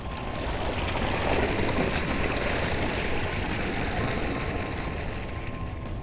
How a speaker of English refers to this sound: Opening outer hatch. Chamber full. Two otters inside the chamber. Releasing water.